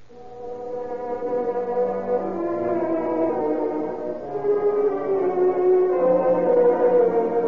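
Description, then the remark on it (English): A police ambulance siren wails steadily and loudly as the ambulance arrives, its low, moaning tone rising and falling slowly for several seconds with no voices over it. “When a few seconds after the police ambulance arrived, he died.”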